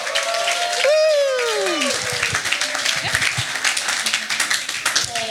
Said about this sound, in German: Gebt ihr einen Applaus.